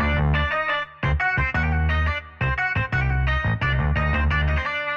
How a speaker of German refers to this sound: Hier kommt die Saz.